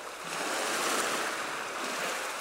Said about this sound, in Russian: В театре есть целое собрание, фонотека всяких звуков. Можно включить шум дождя или рокот волн,